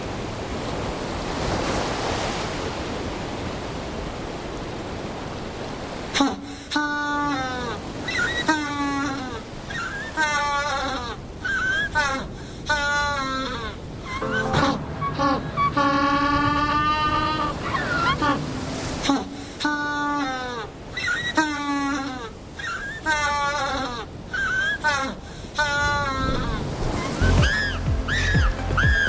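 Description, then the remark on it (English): Loud, braying calls of African penguins, rising and falling in a donkey-like series of harsh, harmonic honks and wheezes, repeated over a steady wash of surf and wind noise. “And hear the sound of the African penguin.”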